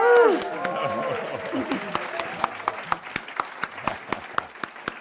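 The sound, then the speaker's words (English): A crowd cheers with high whoops and shouts at first, then keeps up a dense, loud applause, with sharp individual claps standing out increasingly as the cheering fades. “This is a loud crowd.”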